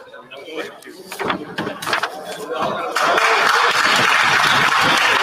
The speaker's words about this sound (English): Évidemment, on a un côté libéral qui applaudit grandement.